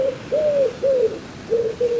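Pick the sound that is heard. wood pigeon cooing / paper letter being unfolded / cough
wood pigeon cooing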